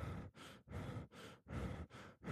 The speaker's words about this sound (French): Respirer par la bouche va tout simplement vous faire respirer beaucoup plus rapidement avec une amplitude qui sera très faible.